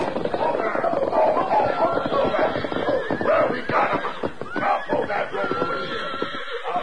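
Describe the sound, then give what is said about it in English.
A herd of unbroken horses galloping as riders drive them into a corral during a horse hunt, hooves drumming steadily while several animals neigh and whinny, with men's voices shouting at the top of their voices over the loud, busy commotion. “Dan Reed, Tonto, Shorty, and Thunder Martin himself rode hard, shouting at the top of their voices, cutting back and forth to keep the horses in a close pack.”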